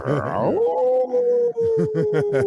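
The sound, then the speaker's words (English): A person imitates a wolf howl: a long, sustained, wavering vocal tone that rises at the start and holds steady for about two seconds, fairly loud, with no other talking. “And that's the wolves.”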